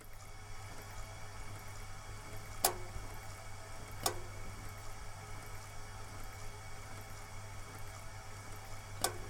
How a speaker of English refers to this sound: Sorry about the radiator being so loud. I'm a fan of white noise.